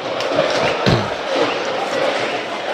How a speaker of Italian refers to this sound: Sostegno dei tifosi del Parma, oggi tanta gente al Tardini, poi vi daremo il numero, ma il colpo d'occhio è notevole.